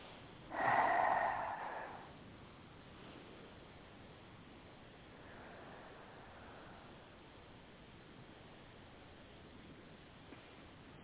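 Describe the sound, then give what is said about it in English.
A person breathing: a single loud, forceful breath, almost a snort, then a much fainter, softer breath a few seconds later against a quiet hiss. “Are those sounds of you breathing or holding your breath? Breathing.”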